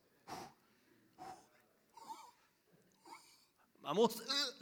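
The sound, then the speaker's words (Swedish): Several deep breaths drawn in, short and breathy with pauses between them, ending in a strained, wheezy vocal sound as air is held. “Man måste andas in. Du kan inte heller bara gå omkring och andas in hela tiden.”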